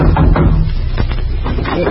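A few dull knocks on a customer's door while a bridge table is being delivered, spaced unevenly, over a steady low hum and hiss with no clear speech.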